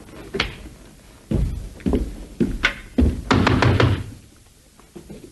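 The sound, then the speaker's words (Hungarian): Several loud knocks on a wooden door, struck in uneven bursts with short pauses, ending in a quick flurry of raps before fading to quiet. “Ki kopog?”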